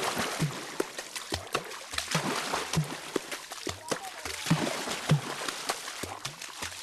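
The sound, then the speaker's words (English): Water drumming by the Baka Forest People of Cameroon: hands slap and scoop river water in a fast, interlocking rhythm, mixing bright splashes with deep hollow thumps, with a steady wash of sloshing between strikes. “You're hearing Water Drums. It's a recording of the Baka Forest People of Cameroon.”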